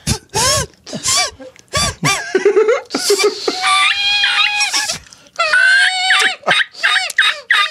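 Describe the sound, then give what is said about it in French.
A series of reedy, nasal honks and squawks from a reed call held in the mouth imitating a duck, some short and choppy, others drawn out and wavering, loud with no talking. “Je pense que c'est un canard ado qui mue, moi, que j'ai réussi à faire.”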